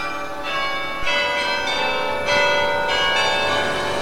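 Church bells from the tower of the Martinikirche in Bremen ring out in a steady series of strikes, each new stroke swelling over the lingering, shimmering hum of the last. Resonant, with no voices.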